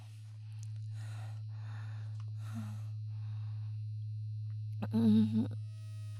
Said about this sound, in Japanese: ああ、バイブすごいわ。聞こえる？バイブの音。